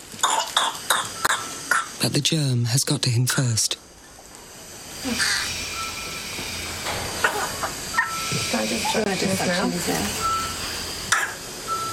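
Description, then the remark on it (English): A 7-week-old baby boy in hospital, not yet vaccinated against whooping cough and struggling to breathe, coughs in a rapid, loud burst of fits, broken by high, strained whooping gasps for air; afterwards a voice speaks over quieter background noise. “What started as a runny nose and a slight cough has become frightening episodes where he's struggling to breathe.”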